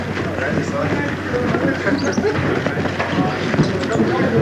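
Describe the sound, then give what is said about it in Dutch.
Several people storm inside and run up a staircase, their rapid footsteps thumping in a busy, uneven rhythm over a steady low hum, with muffled voices mixed into the clatter. “We stormen nu binnen en de trap op.”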